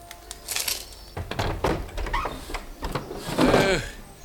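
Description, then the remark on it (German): A window is opened above a person at the front door of a house on a side street in Venice: a clatter of latch and frame knocks, some scraping and rattling, and a creaky squeal of the hinges near the end. “Kurz darauf öffnete sich über ihm ein Fenster.”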